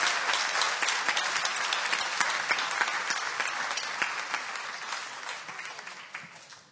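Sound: audience applauding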